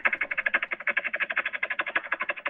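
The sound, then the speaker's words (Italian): In a voice message, a man imitates a helicopter, rapid rhythmic lip taps over a vibrating vowel hum, producing a fast, steady chopping pulse of about ten beats per second, fairly loud, with no other sounds. “ci ha mandato proprio un vocale in cui ci fa sentire come è bravo a fare l'elicottero”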